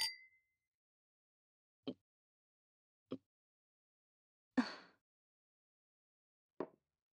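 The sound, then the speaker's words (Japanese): Wine glasses clink together once in a toast, a bright ringing tap that fades quickly, followed by a few soft, scattered knocks and clunks spaced seconds apart. No one speaks. “それじゃ、乾杯。”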